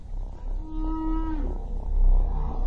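A right whale swimming overhead calls once underwater, a low tonal moan lasting under a second that bends upward at the end, clear over a constant murky rumble of water noise.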